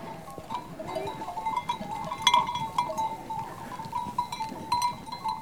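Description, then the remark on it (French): A herd of goats and sheep bleating on a summer mountain pasture as a herder and her dog lead the flock back to the hut, many overlapping calls of varied pitch over a steady murmur, with faint bell-like clinks scattered throughout. “et son chien est en train de reconduire le troupeau vers sa cabane, je suppose.”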